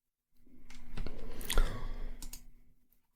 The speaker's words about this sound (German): Immer so deine Maus hört. Klick, klick. Ist die noch aus dem Zweiten Weltkrieg?